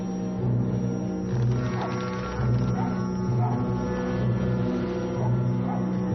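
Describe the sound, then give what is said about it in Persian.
A dog barks and yips in a series of short, repeated bursts, layered over a steady low background rumble. “بیا اینجا سگه، بیا اینجا.”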